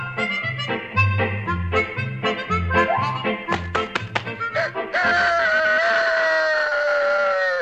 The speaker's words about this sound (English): It was early morning, and Muskie, Tycoon, and Vincent Van Gopher were asleep in the treehouse when they heard the crowing of the rooster.